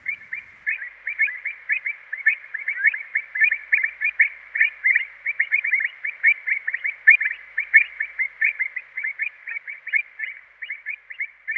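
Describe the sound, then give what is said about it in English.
Calls of avocets, a scarce wader, pour out in a busy, unbroken stream of short, clear, high-pitched notes, overlapping and fairly loud throughout, with no voices present. “A scarce wader, the avocat, is about the same size as an oyster catcher, but much more slender.”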